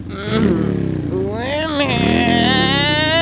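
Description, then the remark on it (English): A person vocally imitates a revving engine, a loud, buzzy voiced drone that rises and falls in pitch like an accelerating motor, sustained for a few seconds. “Oh, man, there's a lot of gas in your woman engine.”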